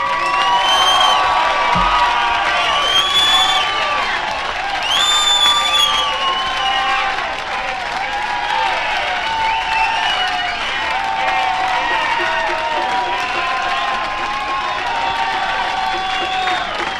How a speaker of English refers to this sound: The crowd's going crazy. I don't think they're going to let him go.